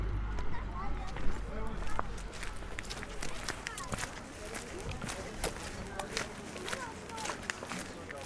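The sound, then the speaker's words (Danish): Steady footsteps crunch and squelch across muddy ground between long rows of white tents in a camp for Syrian refugees in Rabat, a continuous walking rhythm, with murmuring voices and outdoor bustle in the background. “Skal vi prøve at gå ned mellem teltene?”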